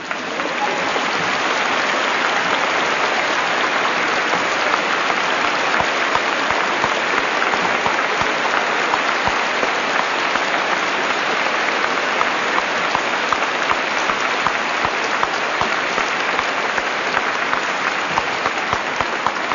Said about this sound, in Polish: Jak to mnie cieszy, że tak serdecznie witacie wszystkich mi drogich kapłanów. Chciałbym, żebym i ja kiedyś dostał takie oklaski.